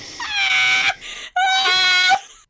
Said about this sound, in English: Why are you screaming in my ear? What is happening?